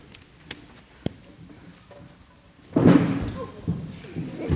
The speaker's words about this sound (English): Whoa, whoa, whoa. What are y'all doing? Y'all almost knocked my doors down.